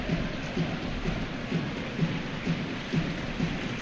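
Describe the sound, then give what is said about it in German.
A stadium crowd at a football match applauds steadily as players are substituted off, including Christian Müller: a dense wash of clapping at moderate volume with no clear breaks across the whole stretch. “Dass der überhaupt noch Applaus kriegt, ist ja ein Wunder.”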